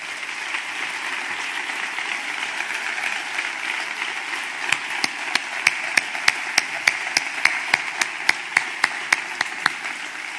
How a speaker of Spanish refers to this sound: Enhorabuena y un fuerte aplauso para ello.